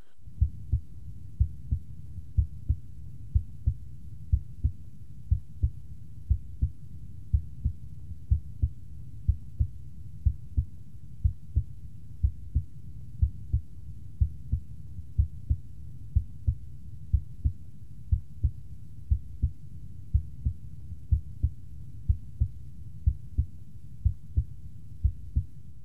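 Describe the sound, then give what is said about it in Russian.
Heartbeat heard through a stethoscope at the tricuspid auscultation point, assessing the tricuspid valve and right ventricle: steady, regular lub-dub pairs of low, muffled thuds, slightly quieter than at the apex, the first sound in each pair noticeably stronger, continuing throughout with no voices. “Аускультативная картина здесь близка определяемой на верхушке, однако громкость тонов несколько меньше. Обратите внимание на преобладание громкости первого тона.”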